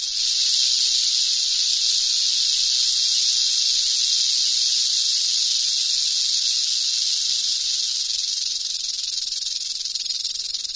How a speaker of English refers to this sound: When vibrated, the rattle produces a hissing sound. Kevin Culver, an expert in natural sound recordings, provided this clip of a Mojave rattler.